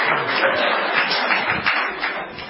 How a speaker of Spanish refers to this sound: ¿Qué aplaude?